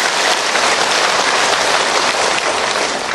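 A crowd at a Buddhist question-and-answer session gives another round of applause, clapping steadily and loudly for a few seconds. It is a dense wash of many hands applauding at once with no voices rising above it.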